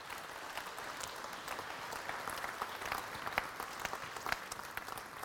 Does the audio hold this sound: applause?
yes